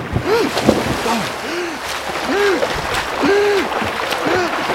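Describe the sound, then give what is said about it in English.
Water splashes and churns in a steady rhythm as people swim hard through a river, having jumped in to escape a tiger, with repeated short, rising-and-falling tones over continuous water noise. “Jump into the river! Tigers can't swim!”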